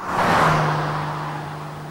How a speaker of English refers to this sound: A car speeds into Meadow Lake and raises dust as it skids to a halt and pulls up at the church.